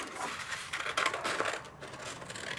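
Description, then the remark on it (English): Scissors snip through stiff orange construction paper as a girl cuts out triangles at a table, a steady run of crisp, rustling cuts with small crinkles of paper in between, fairly soft with no voices. “Karin's sister cuts triangles from orange construction paper”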